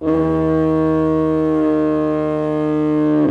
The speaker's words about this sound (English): This is the iconic sound of the diaphone, so-called because it briefly creates a second pitch, sometimes more of a grunt.